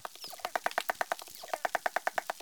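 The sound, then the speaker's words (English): A lone dolphin, recorded by researchers, sings in a fast, steady train of squeaky pulsed calls, roughly ten bursts a second, each a bright mid-pitched chirp, with no voices present. “Here is one dolphin singing alone.”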